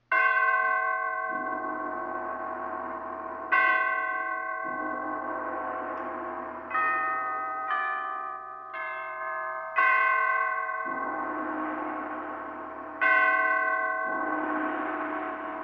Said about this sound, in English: Catherine the Great had just died, and the great bells of St. Petersburg tolled their requiem, tolled again the ascension to the throne of Paul I.